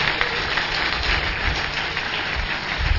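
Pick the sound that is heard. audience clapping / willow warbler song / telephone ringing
audience clapping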